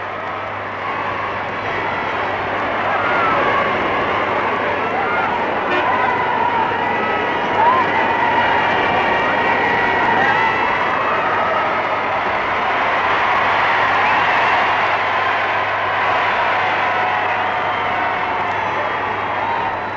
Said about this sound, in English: And yet they're showing, as this great crowd here shows, that they rejoice with the princess in her happiness. And now listen again to the cheers.